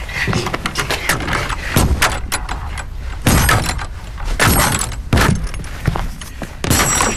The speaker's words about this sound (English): Ian holds the torch as Slee breaks open the chest to reveal a tray with a few gold coins on it.